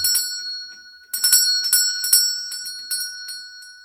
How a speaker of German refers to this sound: Am nächsten Morgen erwachte sie wieder von einem Türklingeln.